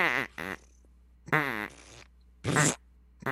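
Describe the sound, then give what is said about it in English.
Several wet, sputtering fart noises made by a voice as an impression of a duck farting, some with a duck-like quacking buzz, coming in short bursts separated by brief pauses, fairly loud. “That's a wet one.”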